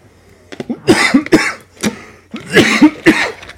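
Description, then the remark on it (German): Two bursts of harsh, wet coughing from a person with a terrible cough, each a cluster of several rapid hacks, separated by a short pause, loud with no speech. “Ja, und ich habe schrecklichen Husten.”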